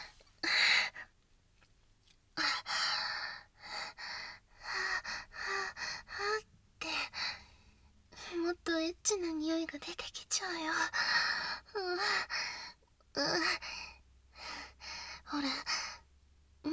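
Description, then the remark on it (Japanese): Rough, heavy breathing, a steady run of ragged inhales and exhales broken by sharp gasps and a few voiced, sighing breaths, with brief pauses between bursts. “伝わってきてる、君の興奮が全身に、太ももの中の粗い息遣いからも。”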